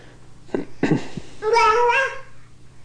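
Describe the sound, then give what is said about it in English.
A cat meows, a long, drawn-out wavering call following a couple of short, soft vocal sounds, with a low steady hum in the background. “It's called looking at the cat calls.”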